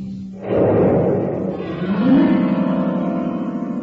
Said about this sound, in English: I once shot a firecracker off in a grand piano.